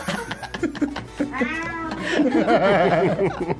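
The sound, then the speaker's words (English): A cat meows in a studio in a long, wavering cry, followed by a string of shorter, rising meows, with faint laughter and voices mixed underneath. “Lily's in the studio too, but she's sitting at her chaise lounge. It's not. With her cat.”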